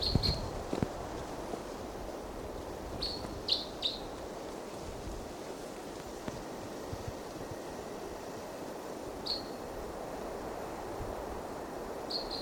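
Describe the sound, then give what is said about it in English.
A wild bird lets out short, high chirps in scattered bursts, a few in quick succession, standing out above a steady low rumble of background noise. “And there's a wild bird.”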